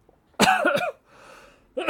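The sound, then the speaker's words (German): A harsh, throaty cough bursts out loudly for about half a second, followed by a soft breathy pause, then a second cough starts abruptly at the very end. “Muss ich mal, keine Angst, kein Corona, muss ich mal einen Schluck Wasser nehmen.”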